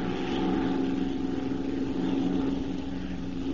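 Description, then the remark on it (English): The propeller engine of Bryce's airplane drones steadily overhead, a continuous low hum with a buzzing tone that holds at an even, moderate loudness throughout, with no voices. “Hey, there's Bryce's plane now.”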